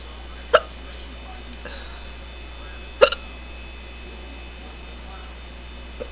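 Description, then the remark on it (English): Two sharp, abrupt hiccups about two and a half seconds apart, the second with a tiny catch right after it, over a faint steady electrical hum and otherwise quiet. “This has got to be the strongest case of hiccups I've had in a long time.”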